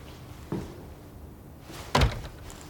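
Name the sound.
door being shut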